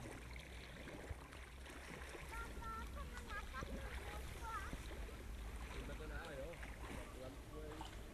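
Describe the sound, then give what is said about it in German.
A paddle stirs, churning and swishing through blue lake water beside a boat, a steady sloshing that runs the whole time, with faint chirping sounds drifting over it. “Rühren mit Paddel, was ist das im See?”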